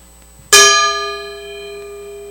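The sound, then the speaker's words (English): A single strike of a Burmese gong from Chin State rings out, with a sharp metallic attack followed by a long, shimmering sustain that slowly fades. It is fairly loud, with no voices. “Burmese gong from the Chin state.”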